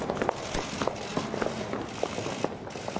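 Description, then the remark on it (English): Many overlapping footsteps of people walking, not running, at an unhurried pace echo through big, tall, broad, reverberant halls. The irregular, steady stream of steps has no voices over it. “I mean, they're big, tall, broad halls, and they're echoey as hell. They're just walking.”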